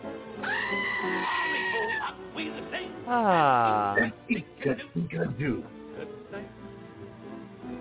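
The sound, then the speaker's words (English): A goat bleats twice, a wavering cry followed by a louder, falling one, clear, before a voice talks in short bursts over a low background. “Good night, goat.”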